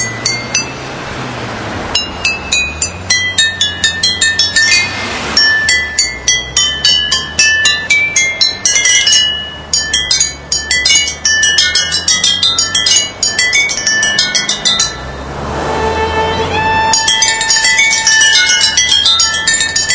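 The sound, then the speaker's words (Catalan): A tune tapped out on glass bottles in an Audi car advertisement: bright, ringing clinks in quick rhythmic runs, each note a sharp pitched chime, playing steadily over a low hum with no voices. “Això és que són els audis, són tals cotxes impressionants que poden tocar això, un Audi amb ampolles, no, Cristina?”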